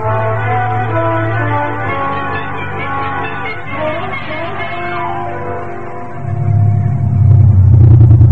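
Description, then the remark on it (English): A car engine drones steadily with a low rumbling hum, swelling louder and rougher near the end as the vehicle pulls away or accelerates. No one speaks. “The car's right down at the curb.”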